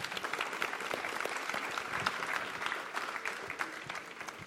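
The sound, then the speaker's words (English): An audience applauds a guest pastor steadily, a dense wash of many hands clapping at an even level for several seconds with no voices rising above it. “Let's give him a round of applause as well.”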